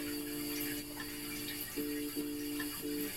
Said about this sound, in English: When it is clear that the shower is running.